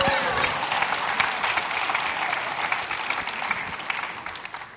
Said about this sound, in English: Can we applaud me, people?